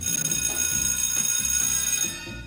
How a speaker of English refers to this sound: Takole, slišali ste torej šolski zvonec